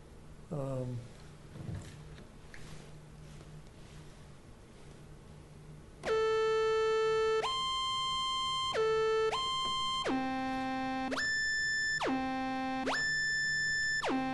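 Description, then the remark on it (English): A bright, buzzy Moog synthesizer plays a loud series of held notes, each gliding smoothly up or down into the next pitch instead of jumping, alternating between high and low notes about once a second; a capacitor inserted in the keyboard's control voltage circuit slows the pitch change. “It's actually sliding up to the note and sliding down to the note because it can't go from one value directly to the other.”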